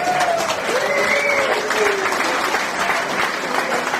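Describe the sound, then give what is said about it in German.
Steady, dense clapping from a crowd at a championship, applauding the helpers, fills the whole stretch at an even loudness, with a few faint whistle-like tones drifting through the first couple of seconds. “Dein Applaus.”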